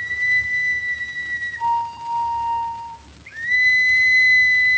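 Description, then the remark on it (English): A signal whistle blown in long, steady shrill blasts, dipping briefly to a lower tone midway before jumping back to a piercing high pitch; loud and with no talking. “That's Joe's whistle.”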